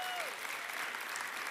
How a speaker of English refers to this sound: Let's give a little bit bigger round of applause